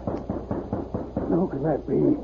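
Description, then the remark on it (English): Five quick, evenly spaced knocks rap on a heavily bolted wooden door, fairly loud, as Baldy Brighton cleans his rifle and six gun by the light of an open fireplace; the visitor is Moose Varney. A voice starts speaking right after the knocking stops. “By the light of an open fireplace, Baldy was cleaning the rifle and six gun that were never far from his side when he heard a rap on the door.”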